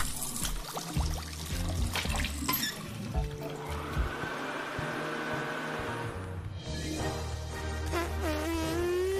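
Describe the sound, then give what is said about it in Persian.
Water runs steadily from a tap for several seconds as someone washes their hands with soap, a continuous splashing rush with no talking, ending with a brief squeaky rising tone. “باید دستم رو بشورم با آب و صابون.”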